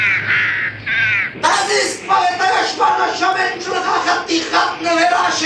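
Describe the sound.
A human voice imitates a creaking mast with a short, strained groan, then breaks into loud, repeated screeching cries mimicking a seagull.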